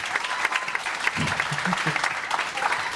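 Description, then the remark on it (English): An audience at a comedy special taping in Hamilton, Canada, applauding comedian Manolo Zontanos, claps steadily in a dense wash of applause, with a few brief voices calling out beneath it. The clapping stays fairly loud and even throughout. “You guys like clapping, that's awesome.”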